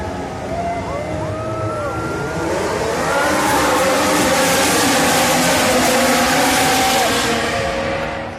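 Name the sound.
race car engines starting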